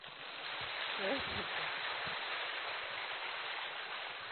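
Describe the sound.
Steady applause from an audience: a dense, even patter of many hands clapping that holds through the whole moment, with a brief voice rising above it near the start.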